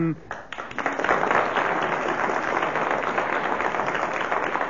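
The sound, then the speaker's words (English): An audience of a game programme breaks into steady applause for Ian Messiter, who finished in 5th place, after a brief moment, a dense wash of many hands clapping that holds at an even, fairly loud level to the end. “3 seconds he kept going, so we must applaud him for his arduous attempts.”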